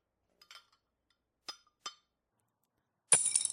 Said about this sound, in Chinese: 儿子，让你吃饭的时候不老实，这下筷子掉地上了吧？快捡起来，然后去拿双新筷子用。